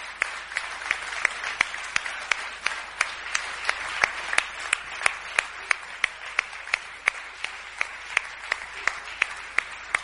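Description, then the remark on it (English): An audience applauds steadily, a dense wash of clapping with sharp, evenly spaced claps punching through about twice a second, like rhythmic clapping in time. No one speaks. “It's a good time to clap right now.”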